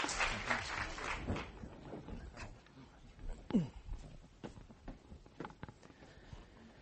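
A burst of audience applause, dense and fairly loud at first, quickly thins into scattered claps and faint shuffling, with a brief murmur of voice partway through.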